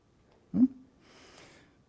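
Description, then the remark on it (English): A person imitates a dying gasp: a short, strained voiced catch in the throat, followed by a long, soft, breathy exhale that trails off into silence. “The breathing stops. Yeah. Excellent. Right. Good. That's good. The true demonstration of death.”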